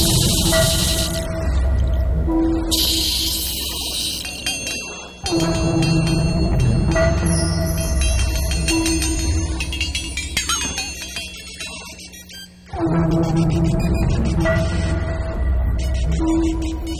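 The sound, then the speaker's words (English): A tarantula's sound like a trickling brook: a steady, melodic bubbling with ringing tonal notes and hiss, running continuously in three long stretches with brief drops in between, and no talking. “One tarantula that makes a fantastic sound, certainly more melodic compared to a lot of the other species.”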